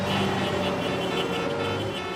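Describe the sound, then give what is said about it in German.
Several car horns honk together as a horn concert, in a loud, sustained blare, their steady tones overlapping into one continuous wall of sound for about two seconds, with no pauses and no talking. “Wenn man uns im Auto mal so richtig freien Lauf lässt, dann spielen wir das absolut spitzenhammermäßigste Hubkonzert, das ihr je gehört habt.”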